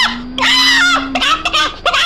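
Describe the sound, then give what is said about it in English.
An agitated chicken squawks and clucks in a few harsh, rapid bursts, loud, with a steady low hum running underneath. “Once he was nearly killed by an angry chicken.”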